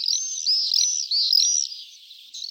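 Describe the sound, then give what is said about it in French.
Common swifts screaming: a continuous run of shrill, high-pitched buzzing screeches, several birds overlapping in quick repeated bursts, loud, with no voices present. “Joli, hein, ces petits martinets.”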